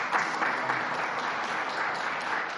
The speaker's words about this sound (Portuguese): Então, um aplauso aos próximos novos santos. Um aplauso aos próximos novos santos.